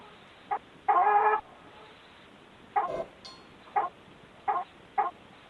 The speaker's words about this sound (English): This chicken's mine.